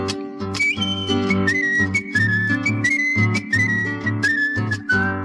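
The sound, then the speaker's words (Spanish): A person whistles a steady, wandering melody over strummed string accompaniment with a regular plucked bass rhythm, the whistle clear and prominent throughout, with no voices. “Vengo de la costa del Clé, meta tropear y chiflar.”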